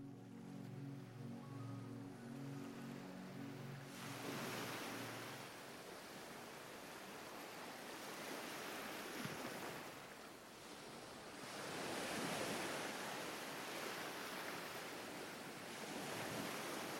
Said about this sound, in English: Boats rock gently offshore. As the ocean breeze fills your lungs, you feel the salty air touch your skin.